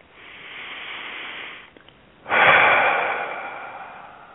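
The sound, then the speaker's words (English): A single deep breath, clear, taken during a guided relaxation exercise: a long, airy inhale, a brief pause, then a louder, fuller exhale that slowly fades out. No one speaks. “With a big breath, relaxing even further.”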